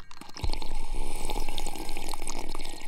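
A man drinks: a soft thump, then about two and a half seconds of steady wet gurgling and slurping liquid sounds at a fairly loud, even level, with no talking.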